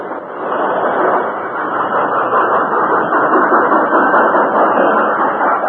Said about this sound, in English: Almost back to the siding when the Lone Ranger brought the work train to a standstill.